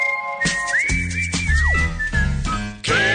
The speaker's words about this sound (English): Kevin and Bean, whistling the hits.